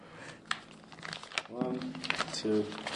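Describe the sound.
Crinkling of paper bills and a few sharp metallic clicks as a man counts his cash, dimes and a quarter, with short bursts of his voice partway through.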